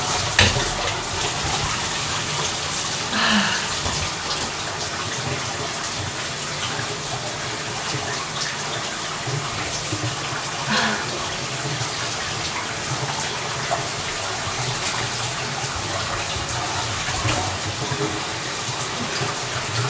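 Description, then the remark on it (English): Shower water, warming up, runs in a steady, dense hiss that spans the full range, with soft spattering and splashing textures and no voices, holding at an even level throughout. “I don't know why you've never joined me in the shower before.”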